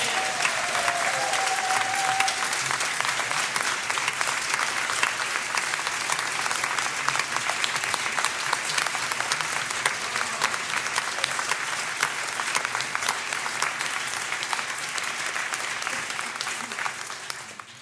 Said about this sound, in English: want to acknowledge all the adults that make our youth and family ministry possible, who prepare themselves and come with their love and their care for our young people, and I'm asking you to show your appreciation with a round of applause for them.